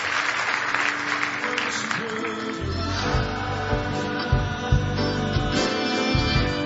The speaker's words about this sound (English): Are you glad you're a son of God? Are you glad you're a daughter of God? Give him a big hand clap of praise this morning.